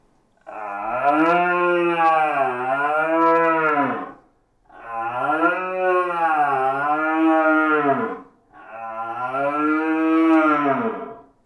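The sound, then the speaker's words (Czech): Three long, moaning roars from a deer call instrument imitate a young, searching red deer stag, each about three and a half seconds, with rich harmonics and a wavering pitch, separated by brief pauses. “Já jsem vám teď tady předvedl ukázku mladého hledajícího jelena.”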